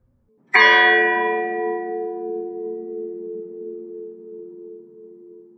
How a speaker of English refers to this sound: Bells also have a darker side. Think of funeral bells tolling ominously in the cemetery.